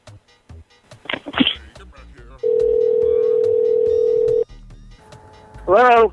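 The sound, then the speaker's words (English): A phone call being placed: quick clicks and beeps of dialing, then a steady two-second ringing tone, with short bursts of voice before and after. “I'll be calling the police right now and we'll straighten this right out.”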